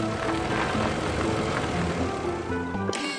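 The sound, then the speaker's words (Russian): A heavy truck crane's engine rumbles steadily as it drives onto a pier, a loud, continuous mechanical drone with faint whining tones, ending in a short clank. “На причал заезжает автокран.”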